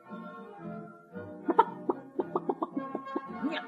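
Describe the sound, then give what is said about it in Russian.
A voice imitates a rooster crowing cock-a-doodle-doo. A drawn-out, tuneful opening gives way to a quick run of choppy, clucking bursts, loud, with no ordinary speech. “Я говорю только кукареку.”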